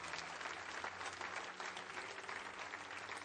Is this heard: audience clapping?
yes